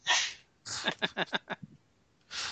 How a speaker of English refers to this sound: She's allergic to your lies. Just such a delicate sneeze.